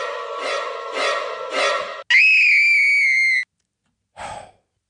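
A screaming sound effect: a few strained, breathy vocal cries, then a loud, sustained, piercing high-pitched scream lasting over a second, and a short gasp after a pause.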